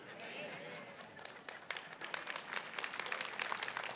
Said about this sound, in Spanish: Pero espérate que ahorita vas a cambiar el aplauso.